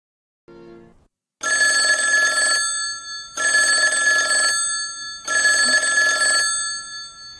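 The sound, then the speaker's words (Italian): A telephone bell rings three times in loud, sustained bursts of about a second each, separated by short pauses, preceded by a brief low tone; no voices are heard. “Il telefono! Oh, che sciocca, non c'è. Ma guarda un po', chi può mai essere a quest'ora?”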